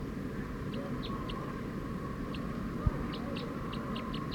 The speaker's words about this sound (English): Decoy, the wild bird's going pretty fast now.